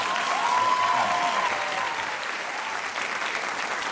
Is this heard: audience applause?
yes